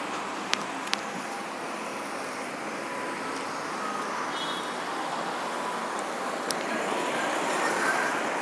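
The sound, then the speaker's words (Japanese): A steady, dense roar of heavy road traffic passing by rolls on without a break, swelling slightly toward the end, with a few sharp clicks near the start. No one speaks. “今日はやけに車の量が多いな。”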